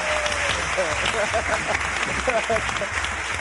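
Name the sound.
studio audience applause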